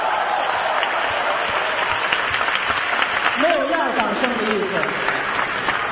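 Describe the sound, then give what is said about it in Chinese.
A theater audience applauds steadily as two comedy performers take the stage, dense rapid clapping filling the whole stretch at a fairly loud level, with a voice briefly speaking over it partway through. “对， 因为这个掌声太热烈了。”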